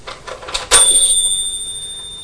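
A few small plastic clicks and rattles, then a toy house bell gives one bright, high-pitched ding that rings on with a gentle wavering shimmer as it slowly fades. No one speaks.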